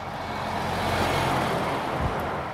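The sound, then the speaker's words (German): Large semi-trailer trucks rumble past on a road at a freight hub in Berlin's port, between the harbour basin and an empty-container depot, with a steady, broad roar of heavy engines and road noise, swelling slightly mid-clip, loud, with no voices. “Rechts von ihm liegt das Hafenbecken, links das Leercontainerdepot und zahllose Schienenstränge, dazwischen eine Straße, über die große Sattelschlepper fahren.”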